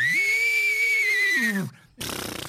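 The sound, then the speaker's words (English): A man's voice imitates a horse whinny with one loud, sustained high-pitched call that rises, holds and drops away, followed after a brief pause by a breathy, snorting burst. “Actually, all I did was mimic them, but they responded. For instance, a horse.”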